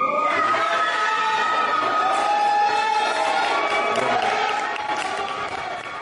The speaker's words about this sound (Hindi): साबिक सदर के हामियों ने उनकी तस्वीर ऊपर उठा रखी थी। खवातीन के एक ग्रुप ने चीखों पुकार करके अपनी खुशी का इजहार किया।